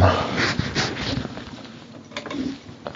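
Cats being fed: a few sharp clatters and rattles over a steady, hissy rustle, moderately loud and irregular in rhythm, with no clear talking.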